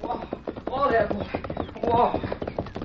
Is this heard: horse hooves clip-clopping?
yes